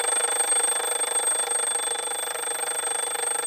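A carriage clock's small mechanical alarm bell rings nonstop with a fast, rattling clatter, loud, holding a steady level for the whole stretch with no voices.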